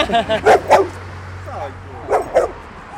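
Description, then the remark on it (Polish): A dog barks in two quick bursts, three sharp barks, a pause, then two more, over a low steady hum and a faint whine or murmur in between. The dog is setting out on a walk with a group of people. “jesteś pierwszym psem, który z nami idzie.”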